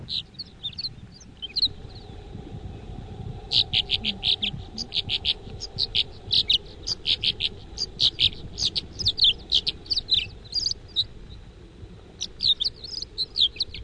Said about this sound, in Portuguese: Vamos comparar então? E agora vamos ouvir a outra andorinha.